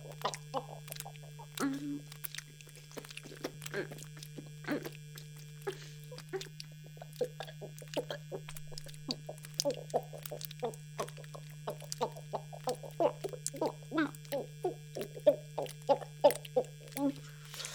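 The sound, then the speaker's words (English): A steady, low electric hum drones without a break from start to finish, an electric massager motor running while someone lies back with it to nap, with busy scattered clicks and chirpy sounds popping over it. “Well, I am super stressed, and I thought I'd lie back with my massager and try to nap.”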